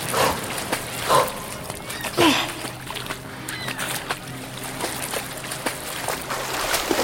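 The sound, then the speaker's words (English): A dog, Luna, barks a few times in short, spaced bursts over a steady, noisy outdoor background with no talking. “We'll all go to the dog park together after this is all over.”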